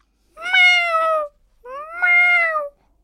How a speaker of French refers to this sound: Le chat, trop facile.